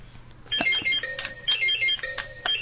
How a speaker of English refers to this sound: First, let's do a buzzer check.